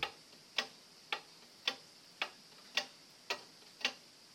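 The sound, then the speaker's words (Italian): Steady, evenly spaced ticking, like a clock, with about eight crisp clicks at a regular unhurried pace, clear against a quiet background with no voices. “Sentite questo ticchettio?”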